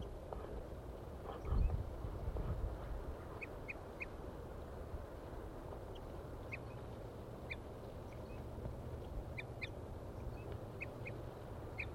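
birds calling in trees

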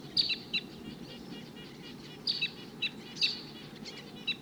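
wild bird flight calls

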